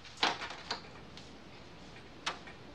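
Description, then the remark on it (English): A warehouse front door opens in the daytime with a quick latch click. Soft knocks follow as a woman leans her bike against the doorway, then one more sharp tap comes a moment later, all quiet. “Alex opens the front door to the warehouse and leans her bike against the doorway.”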